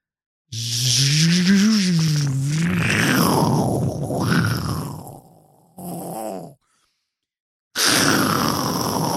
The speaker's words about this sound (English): Oh, it's like a storm. It's like stormy in there. It's pretty windy. Oh my God. It's got a big fan. Big ass fucking fan.